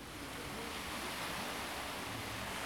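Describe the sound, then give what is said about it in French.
A steady, dense, loud roar of ocean waves striking very hard against rocks on a sunny day, throwing up salty spray, the surf churning continuously rather than in separate crashes. No voices are heard. “Les vagues se cognent très très fort sur ces rochers et les gouttelettes se déposent sur mon visage.”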